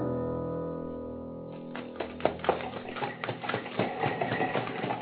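A low sustained drone fades as sharp, uneven clip-clopping of horses' hooves comes in, a steady stream of fairly loud knocks, with no voices.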